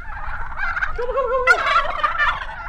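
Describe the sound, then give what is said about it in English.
Turkeys on a farm gobble loudly, a chorus of rapid, rattling warbles that overlap and keep going without a pause, with one sharper, higher gobble cutting in midway. “They raise chickens, ducks, sheep, quail, and turkeys.”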